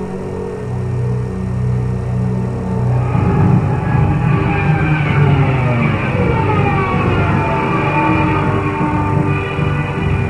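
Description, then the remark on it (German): A Stuka dive bomber's Jericho siren, a special siren fitted to the plane and heard during its dive, wails loudly and continuously, its pitch climbing over a heavy, rumbling engine roar that fills the whole stretch with no voices. “sogenannten Stukas, konnten präzise Straßenzüge vernichten und hatten bei ihren Sturzflügen eine auch psychologisch traumatisierende Wirkung auf die Bevölkerung, weil an ihnen noch spezielle Sirenen, die sogenannten Jericho-Sirenen, angebracht waren.”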